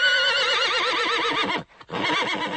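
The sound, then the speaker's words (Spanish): A horse neighs loudly, a long wavering whinny with a brief pause before a second shorter burst. No one speaks over it. “Sí, han escuchado bien. Vamos a hablar de caballos.”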